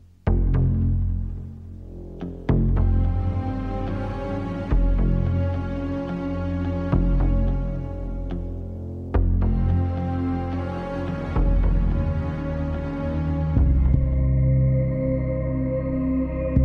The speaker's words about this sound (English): So in season 1, we kind of started with a few different ideas. What's most noticeable about the theme song is that heartbeat that's throughout the whole piece.